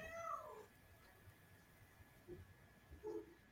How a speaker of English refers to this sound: There's a cat under my desk. I thought it was a ferret. Or like a badger or something. Just one of those, those old factory cats, you know.